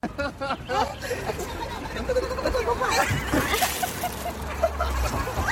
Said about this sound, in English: In perhaps unusual scenes this week, hundreds of thousands of people have been gathering in southwestern China for what looks like a huge water fight. There have been videos all over Chinese media of crowds of people armed with water pistols running